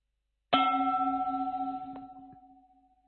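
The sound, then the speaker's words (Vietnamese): The second bell of a guided mindfulness meditation is struck once, ringing out with a clear tone and long, slowly fading shimmer; faint small knocks are heard as it decays, with no one speaking. “Khi nghe tiếng chuông thứ hai, các hành giả chúng ta hơi tắc nhẹ vai mình, động nhẹ toàn thể thân thể của mình.”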